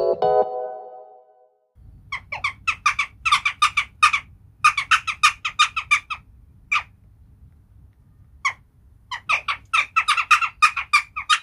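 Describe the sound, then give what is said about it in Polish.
A bird gives a rapid series of harsh, chattering calls in quick bursts with short pauses, clear over a low background rumble, after a brief tonal note at the start. “Ptasiego na polski tłumaczy ornitolog Paweł Pstrokoński.”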